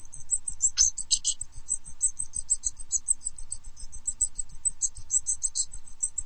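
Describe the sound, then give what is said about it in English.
A recording of the calls of 48 different types of thrushes: a rapid series of short, thin, high-pitched calls follows one after another without pause, several overlapping, over a faint low rumble. No one speaks. “That's a recording of the calls of 48 different types of thrushes.”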